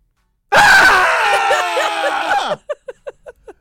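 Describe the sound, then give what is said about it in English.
A loud, sustained scream from several voices lasts about two seconds, then breaks into a quick run of five short, breathy bursts like gasping laughter. “I miss hearing you guys scream.”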